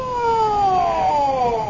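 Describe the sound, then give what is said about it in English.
An ambulance siren wails loudly, its tone sliding steadily downward in one smooth sweep, with no voices over it. “What's the ambulance for?”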